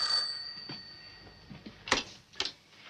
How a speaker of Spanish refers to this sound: se levanta y coge el teléfono.